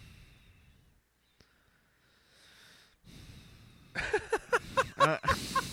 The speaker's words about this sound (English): You're literally breathing into the mic.